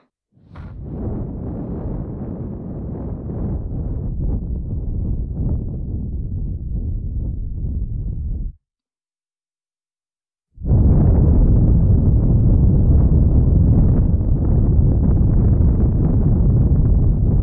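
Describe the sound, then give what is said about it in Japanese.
Breathy blowing of hot breath into the listener's ear: a long soft gust of air, a brief pause, then a louder, fuller rush of breath that continues steadily to the end. No talking. “熱い吐息を吹きかけられて、 お耳の神経こそばゆくてうずうずしているはずです。”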